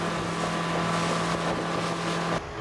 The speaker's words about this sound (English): More than 3 hours with the boat.